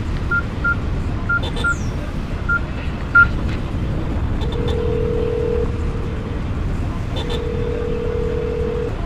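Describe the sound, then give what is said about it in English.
A quick string of short keypad beeps as a phone number is dialed, then two long, steady ringing tones, all over a constant low rumble like an idling engine or wind. “let me go and see the car first, and then we could call Carly”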